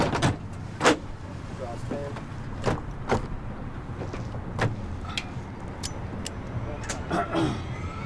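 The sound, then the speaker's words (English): A helicopter's sliding door is pulled shut on a skydiving jump team with several sharp clunks and latching clicks over a steady engine drone, with muffled voices. “All right, guys, I'm going to close you up.”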